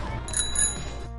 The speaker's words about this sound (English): I have to say stuff really loud, and my plan was to ring my bell really loud, too.